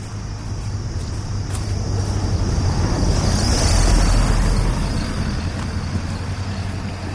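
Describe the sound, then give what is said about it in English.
A Jeep drives past, its engine rumble and tyre noise swelling steadily to a peak around the middle before fading, with a broad low hum underneath throughout. “That was a Jeep or something.”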